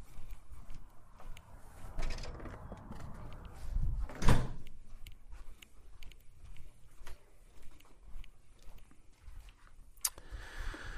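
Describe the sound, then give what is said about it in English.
A door swings and shuts with a solid thud about midway through, surrounded by soft shuffling and small handling noises; a faint click follows near the end. “Let me shut the door and then keep going.”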